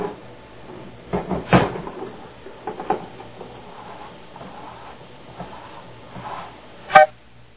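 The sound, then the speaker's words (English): A barcode scanner gives a short, buzzy car-horn-style beep near the end, signalling an invalid barcode after another key was accidentally pressed while scanning a can, after a few clattering handling knocks and taps earlier on. No one speaks. “I think we got the car horn beep because I had accidentally pressed another key or something, and it didn't think it was a valid barcode.”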